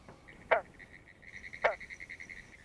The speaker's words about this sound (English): In eastern North America, the single notes of the territoriality call of individual green frogs can be heard throughout the summer. These sounds were issuing from a ditch near Orange Springs, Florida.